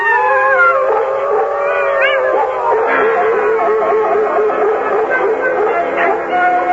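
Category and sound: animal, wolves howling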